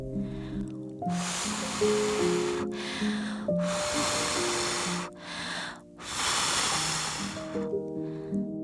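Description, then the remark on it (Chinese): Several long, forceful breathy blows into a yellow star balloon that does not inflate, each a broad rushing hiss lasting about a second, separated by brief pauses, with soft tonal music notes playing underneath throughout. “米米满头大汗，使劲地吹，就是不见气球有任何的动静。”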